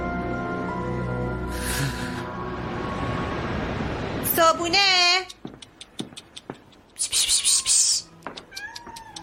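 A stray cat lets out a loud, wavering meow after a low rumbling stretch, followed by rapid clicking sounds, a brief noisy burst, and then another quieter meow.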